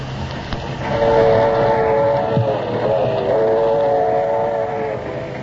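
A passenger train rumbles steadily along the rails, with a sustained, droning horn-like tone sounding over the noise for several seconds; no voices are heard.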